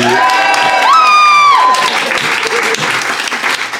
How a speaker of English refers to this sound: applaud now.